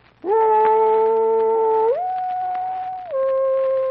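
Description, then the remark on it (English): A human voice imitates a dog with one long, loud, continuous howl, stepping down in pitch twice before ending, with no separate barks or talking. “Ever obligingly, I hereby bark.”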